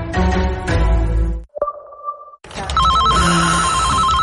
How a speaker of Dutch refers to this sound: Alweer die telefoon.